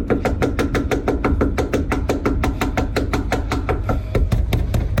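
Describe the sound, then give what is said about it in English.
Rapid, insistent knocking on the front door of a man's home by a woman he will not let in, roughly four sharp raps per second, continuing steadily and loudly for the whole stretch with no voices. “Knocking on the door.”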